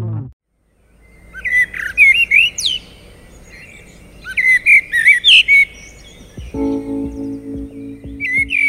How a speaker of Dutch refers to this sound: Mooi, hè? De vogels, zoals deze merel, laten steeds nadrukkelijker van zich horen. En dat is niet zonder reden. De lente hangt in de lucht.